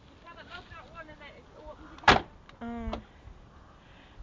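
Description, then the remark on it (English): Faint voices murmur, then a car door slams shut with a single sharp thud, followed a moment later by a brief buzzing whir of the locks engaging. “Close the door so your mum can lock it.”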